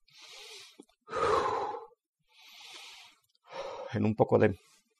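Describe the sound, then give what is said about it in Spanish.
Heavy, labored breathing after physical exertion moving the arms and legs: four deep, rhythmic breaths alternating in and out, some exhales carrying a voiced, sighing groan. No one speaks. “En unos pocos minutos estaré listo nuevamente, mi respiración está un poco fuera de lo normal.”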